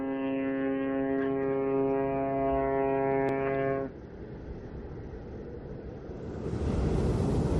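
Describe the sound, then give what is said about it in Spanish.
A cruise ship's horn sounds one long, loud, steady blast, then cuts off to leave the broad rushing wash of waves on a calm sea in the Drake Passage, which swells louder near the end. “Bueno, parece que el mar por ahora está calmado.”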